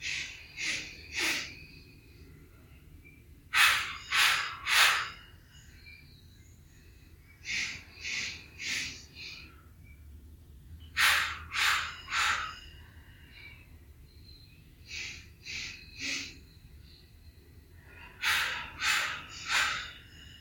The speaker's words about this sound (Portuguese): Respirar normalmente. Essa é a respiração 4x4. Então, quando vocês ouvirem a respiração 4x4, essa é a prática mais comum durante a meditação.